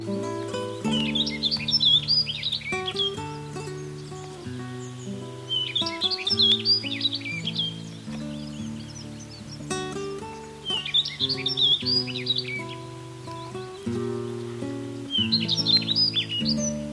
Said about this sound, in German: Das war die Waldammer.